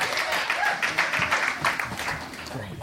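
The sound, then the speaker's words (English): An audience claps for David Huntsberger, steadily, in a dense, sustained round of applause, many hands blending into a continuous patter that stays fairly even throughout, with faint voices mixed underneath. “All right, David Huntsberger, clap your hands.”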